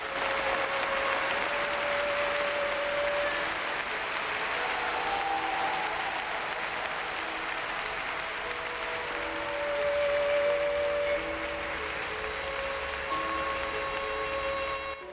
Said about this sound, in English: looks around her as the audience rises to its feet in an ecstatic standing ovation.